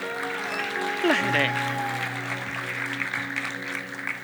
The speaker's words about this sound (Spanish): Y ahorita quiero llamar a un amiguito. ¿Puedes pasar por acá? Eso. Un aplauso.